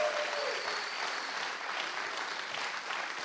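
A crowd claps steadily in a dense, continuous wash of applause that holds an even loudness for several seconds, with no voices standing out.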